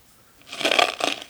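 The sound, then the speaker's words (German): Two crunchy, gritty footsteps grind over scattered coffee beans, fairly loud, each step a brief crackling burst in an otherwise quiet moment. “Tritt auf die Kaffeebohnen.”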